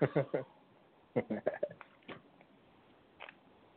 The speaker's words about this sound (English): I got them hiccups, man. Excuse me. I got to drink some water, man.